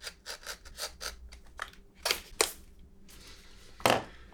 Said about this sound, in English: So first of all, the excess leather has to be trimmed off so that it's flush with the edge of that rebate.